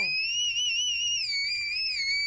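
A single piercing, very high sung note in the whistle register, held steadily for a couple of seconds with a slight wavering vibrato, loud and close with no talking.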